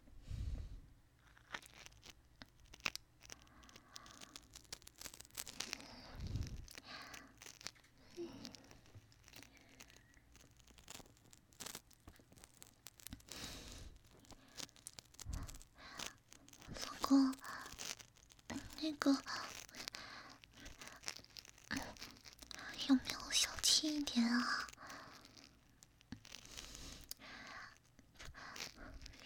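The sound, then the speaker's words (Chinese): Soft crunching and nibbling mouth sounds in irregular bursts, a person imitating a dog chewing on a right ear, with faint whispering in between. “我真的知道错了，那狗狗也现在咬它老公右边的耳朵了，好不好？”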